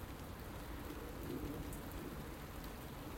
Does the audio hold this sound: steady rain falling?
yes